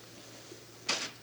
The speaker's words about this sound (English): Wait, did the door close automatically by itself? How's it going to open?